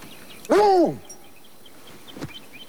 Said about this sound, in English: The dog pads over to the edge of the porch and barks at the sight of Melanie.